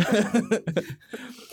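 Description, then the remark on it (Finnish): A harsh cough erupts in a few quick, rough bursts, then trails off into quieter breathy sounds. “Joo, siinä tuli hirveä yskä.”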